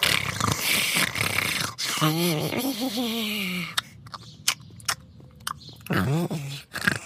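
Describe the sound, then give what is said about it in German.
A small creature, asleep and snoring peacefully, makes rough, breathy drones, breaks into low wavering grumbles, then smacks its lips with a few sharp wet clicks before grumbling once more, fairly loud. “während das kleine Wesen friedlich schnarcht und immer wieder leise grummelt und schmatzt.”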